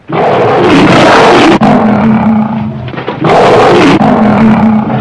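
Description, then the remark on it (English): A young lion, in the film scene where Samson comes in contact with it, lets out two long, loud roars, powerful with a deep rumbling tone, separated by a brief dip; no one speaks. “So this is the scene where Samson comes in contact with the lion.”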